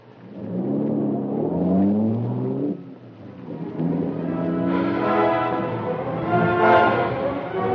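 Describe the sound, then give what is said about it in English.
At 8:15, a car carrying three men, one of them a police sergeant, starts: its engine turns over and revs, its pitch climbing in two loud surges as it pulls away and gathers speed, with no voices. “It was 8:15 when Palmerston stepped into his car, accompanied by Axford and his friend from police headquarters, Sergeant Burke.”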